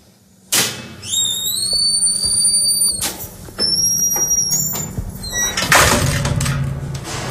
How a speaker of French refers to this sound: On attend qu'on nous ouvre la porte, là.